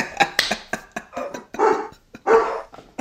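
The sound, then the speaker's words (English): Two dogs bark back and forth, one with a deep, low woof and the other with a higher, sharper bark, in quick overlapping bursts with no talking. “I'm just appreciating the difference in the barks, like the low and the high.”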